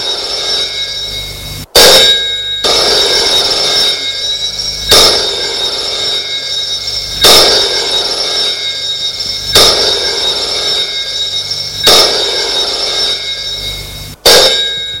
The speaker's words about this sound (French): Tout de suite, le téléphone sonne dans le bureau du vieil homme en noir qui est à la maison au fond de la cour. Le téléphone est à côté de lui.